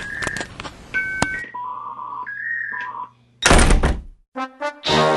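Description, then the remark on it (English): A dial-up modem dials with quick touch-tone beeps and clicks, then connects in a loud handshake of steady tones, harsh hissing static bursts and warbling, buzzing screeches, with no voices. “Oh, I hate dial-up.”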